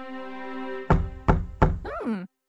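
A servant gives three firm, evenly spaced knocks on Princess Daisy's wooden bedroom door, rising over a steady musical drone, followed by a brief swooping tone as the sound cuts off.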